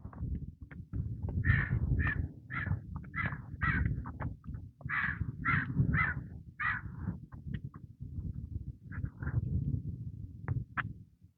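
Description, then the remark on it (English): A flock of crows chasing a hawk caws repeatedly in harsh, overlapping bursts, loud, over a steady low rumble of wind or background noise, with the calls thinning out toward the end. “Crows chasing a I don't know what kind of hawk that is.”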